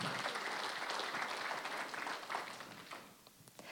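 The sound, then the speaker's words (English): A church audience applauds, giving a hand clap to the Lord, in a dense, steady wash of many hands clapping, which thins toward the end into a few scattered claps, with no voices heard. “Let's give a hand clap to the Lord for that.”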